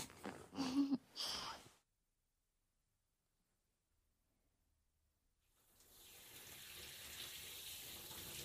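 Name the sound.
shower water running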